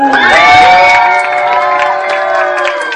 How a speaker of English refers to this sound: Still don't know why people are booing. I don't understand, but okay.